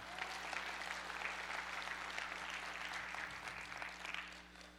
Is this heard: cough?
no